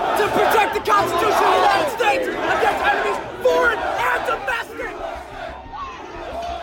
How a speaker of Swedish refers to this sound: Framme vid kongressen slås fönster sönder och dörrar forceras. Mobben av människor tar sig in i byggnaden.